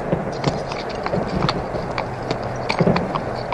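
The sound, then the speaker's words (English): Horses' hooves clip-clop in an uneven, overlapping rhythm against a steady rumbling background, as if several horses are moving together. No one speaks. “In that clip, we heard a soldier telling his men to hold their horses before he started firing weapons.”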